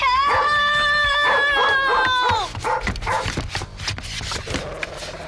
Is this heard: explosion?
no